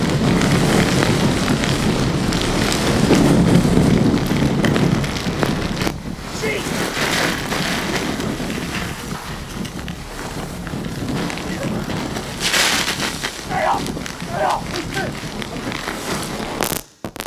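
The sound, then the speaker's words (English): Hurricane Isabel's winds roar with driving rain at Kill Devil Hills in the Outer Banks, a loud, unbroken rush for the whole stretch, swelling in gusts and buffeting the camera's microphone with crackly bursts. “So the power of storms.”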